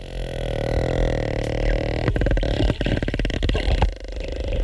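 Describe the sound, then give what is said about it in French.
A sperm whale vocalizing: a steady tonal hum gives way to rapid bursts of sharp, dry clicks that come in irregular rattling runs, moderately loud, with no voices. “C'est pas un grognement, c'est un peu comme le bruit d'une porte qui se ferme.”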